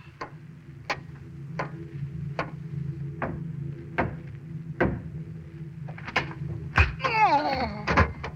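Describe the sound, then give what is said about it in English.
Sharp, hard knocks on the door to the pilot, given as the three-knock signal to the pilot, ring out in a steady, evenly spaced series over a low background hum, with a cluster of louder raps and a brief muffled voice near the end. “what's your signal to the pilot? 3 knocks.”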